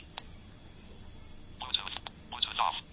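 Two short electronic beeps from a Nokia 6600 mobile phone keypad as key 1, assigned to Bluetooth, is pressed, spaced under a second apart, clear over a quiet background hiss, with faint clicks between.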